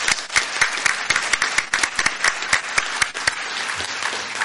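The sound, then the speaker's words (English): A crowd at a school awards ceremony applauds steadily for the Student of the Year and Career Technical Student of the Year nominees, a dense wash of many hands clapping with sharper individual claps popping out, fairly loud and continuous throughout without any talking. “Let's give them all a big round of applause.”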